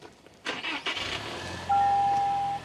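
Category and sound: vehicle, truck engine starting up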